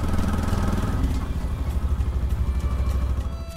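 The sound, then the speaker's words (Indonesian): A pompong, a small wooden boat with an outboard motor, runs steadily on the crossing to Pulau Penyengat, a loud continuous low putter with a slight rhythmic throb and no pauses. “Untuk mempercepat perjalanan, kami pun menyewa sebuah pompong, kapal kecil dari kayu dengan mesin tempel.”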